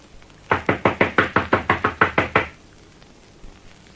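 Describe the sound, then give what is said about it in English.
A rapid series of about eleven loud, hard knocks on a wooden front door at a veranda, evenly spaced over two seconds, sharp, followed by near silence. Men knock again, louder, to check whether anyone is home. “Knock again. Louder.”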